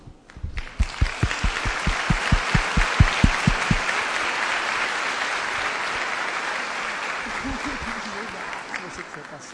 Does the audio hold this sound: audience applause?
yes